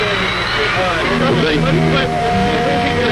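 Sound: stadium concert crowd roaring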